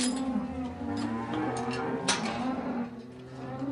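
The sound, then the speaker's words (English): A herd of 70 dappled Holstein Friesian dairy cows on an organic raw milk farm low in a long, sustained moo with a strong, steady drone, fairly loud, as they are let into the farmyard, with a few shuffling sounds around them and no talking. “his 70 dappled Holstein Friesian cows.”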